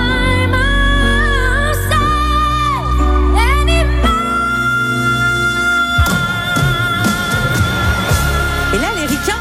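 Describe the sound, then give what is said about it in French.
A singer sings a sustained note with music, then a loud live concert crowd erupts in screams and cheers before the song has ended, roaring on over the performance, broad and continuous. “Ils hurlent. La chanson, elle n'est pas finie, mais quand elle fait la note, ils deviennent dingues, ils deviennent fous.”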